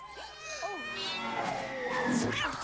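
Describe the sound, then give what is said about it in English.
A small black cat, kicked out of a driveway by the Trunchbull in Matilda, lets out a few short, rising-and-falling yowls near the start, then a busier mix of voices and background noise takes over, fairly loud throughout. “Suddenly, she kicks the cat clear out of her driveway.”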